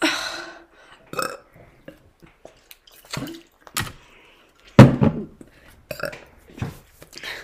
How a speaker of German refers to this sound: Eigentlich, ich hab was getrunken und habe dann gerülpst